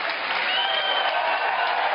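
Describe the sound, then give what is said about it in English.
Steady applause from a large crowd in a packed venue, many hands clapping at once in a dense, even wash of sound that holds at a strong level for the full two seconds, given in answer to a show-of-hands poll. “How many think they should go through a process that maybe give them a chance? Clap. We got to hear you.”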